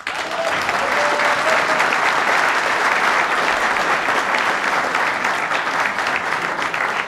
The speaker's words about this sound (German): den heißen wir mit einem herzlichen Applaus willkommen bei uns in Chemise.